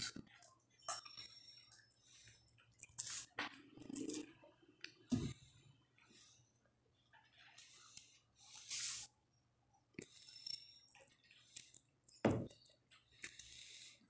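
Sounds of someone drinking water: small clicks, a glassy clink, sips and swallows, and a few breaths, with quiet pauses between them and no talking.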